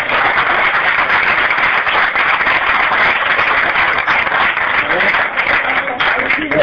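A crowd applauds steadily for several seconds, a dense, continuous patter of many hands clapping, loud and sustained without a break, applauding the people responsible for the new videos.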